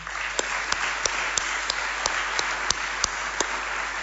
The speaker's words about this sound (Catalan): Així que m'agradaria fer un fort aplaudiment als que avui no poden pujar a l'escenari.